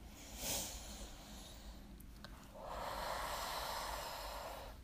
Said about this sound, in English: And as you hug yourself, I just want to invite you just to breathe in again and breathe out.